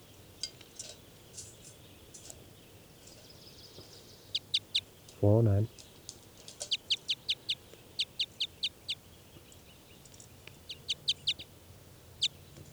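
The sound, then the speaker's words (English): Two birds, numbered 409 and 410, call back and forth in a test recording in quick bursts of sharp, high chirps, broken by one louder, lower, harmonic squawk partway through, over a soft steady background hum. “These are test recordings of birds 409 and 410.”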